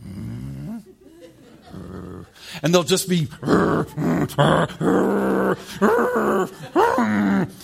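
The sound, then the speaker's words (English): A person voices a series of rough, guttural growls, mimicking a mother dog and her 2-year-old puppy snarling over bones, in several loud bursts after a few spoken words. “They'll get really aggressive.”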